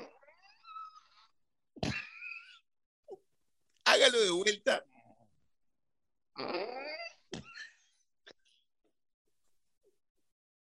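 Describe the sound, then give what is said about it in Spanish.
A voice imitates a creaking door as a radio-theatre sound effect, with drawn-out, wavering squeaks and groans in several separate bursts, rising and falling in pitch, with a brief spoken request between them. “Yo le sé el sonido de la puerta, miren.”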